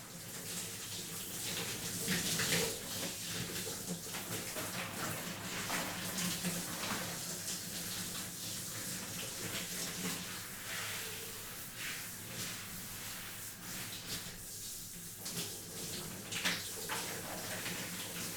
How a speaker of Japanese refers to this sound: それでは、シャワーで泡を流していきますね。